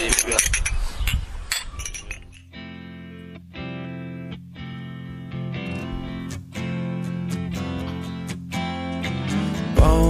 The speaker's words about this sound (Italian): prima di salutare i nostri amici facciamo un brindisi. Com'è che si fa a Milano? Milano si dice cin cin. Qui invece? Zdravie. Zdravie.